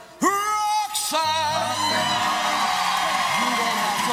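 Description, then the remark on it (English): A crowd erupts in loud cheering, with high whoops and yells rising over a sustained roar of applause and voices that carries on steadily for several seconds. “Lots of cheering.”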